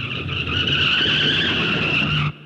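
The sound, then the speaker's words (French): A milk van's tires give a loud, sustained screech as its frightened driver brakes in an emergency after the cat O'Malley jumps onto the hood, steady high-pitched tones over a low engine rumble for about two seconds, then cutting off abruptly into near silence. “Il sauta sur le capot, toute grippe dehors, et obligea le chauffeur à demi mort de peur à freiner en catastrophe.”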